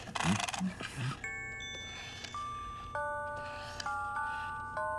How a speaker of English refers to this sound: Oh, this is nice. Yeah, we just got that in. Victorian music box. In good shape, too. Turn the crank. Oh, all right.